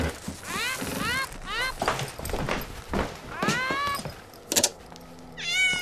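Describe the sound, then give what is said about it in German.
A tomcat, Mrs. Selby's, meows repeatedly in a laboratory, a string of drawn-out, rising-and-falling cries with short pauses between them and a brief sharp clatter near the end. “Bob und ich haben die Katze gestern hergebracht.”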